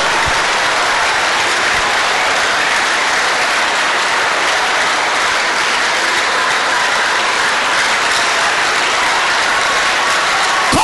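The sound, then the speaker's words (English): Steady, dense hand clapping from many people fills the whole stretch, a loud continuous patter of claps with no pauses and no voices over it. “Say, every arrow fired into my hand, as I clap my hand, jump out, jump out, jump out, jump out.”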